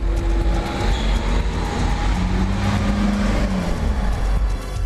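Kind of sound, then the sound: vehicle, passing car traffic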